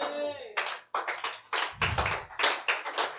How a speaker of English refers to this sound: Only three people are clapping.